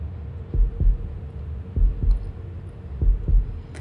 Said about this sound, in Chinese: 啊，就连你的心跳都越来越快了呢。来，让我好好听听。